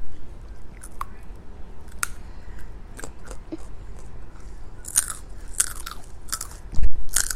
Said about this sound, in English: A little less loud, please. No one wants to hear you guys crunching.